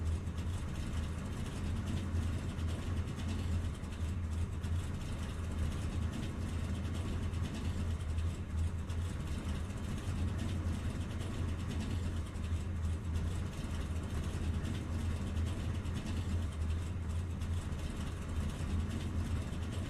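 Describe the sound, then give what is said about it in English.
A race truck's engine runs steadily with a deep, constant low rumble and droning hum, loud and unbroken for the whole stretch, with no talking. “Just kind of hoping this truck doesn't heat up too much, because I know when I was doing practice, it was getting like right around 266, so hopefully we get the draft, lay out of the throttle a little bit.”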